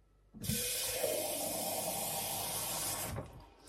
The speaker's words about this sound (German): Ich fülle also den Becherkocher jetzt erst einmal mit Wasser.